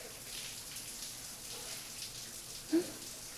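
shower water running

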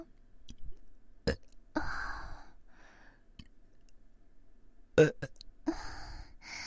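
burping

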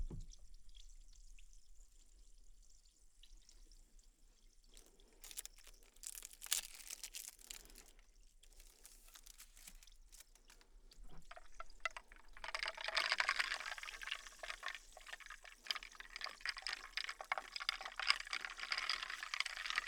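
ice cubes clinking

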